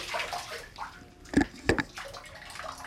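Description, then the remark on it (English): A dog splashes with its paws in a bathtub, water sloshing and splashing onto the floor, with two sharper splashes close together near the middle, over a steady wet, washing background. No one speaks. “Get your paws out of the bathtub. You're getting water all over the floor.”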